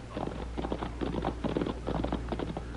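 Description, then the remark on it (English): Horse hooves clip-clop in a steady, uneven rhythm of clustered hoofbeats, moderately quiet, over a low constant hum with no voices. “I hear horses.”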